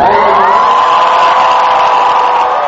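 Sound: large crowd cheering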